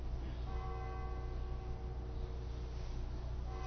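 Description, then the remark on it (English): A deep church bell tolls once, its ringing overtones hanging and slowly fading over a low, steady rumble, with no voices. “For whom does the bell toll?”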